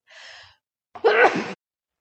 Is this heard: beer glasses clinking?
no